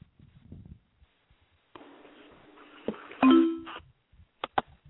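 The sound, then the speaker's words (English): A phone notification chime rings out loudly and clearly as someone receives a message on their phone, a short tonal ding-dong over a hissy, band-limited background, followed by a couple of sharp clicks. Low murmurs of talk come before it. “That's somebody getting a message on their phone.”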